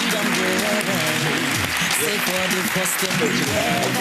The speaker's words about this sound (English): And if you've ever worked on any of those open source projects, you owe yourself a huge round of applause.